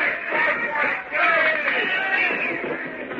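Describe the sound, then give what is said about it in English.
Several men of a ship's crew shout and holler triumphantly over one another against the dense, steady noise of battle as a German plane is hit and comes down burning, the raised voices overlapping loudly and continuously with a brief dip about a second in. “… continued over the noise of battle and the shouts of the triumphant crew.”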